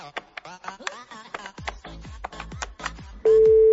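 A quick run of short electronic phone beeps as a number is dialed, followed by a steady, unbroken telephone tone that begins near the end. No one speaks.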